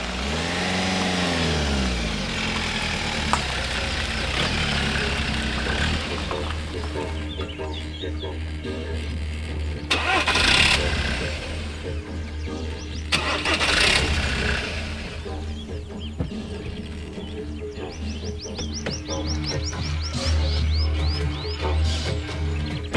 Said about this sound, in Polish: przejeżdża 500-konna limuzyna. Przejeżdża, choć koniec końców staje.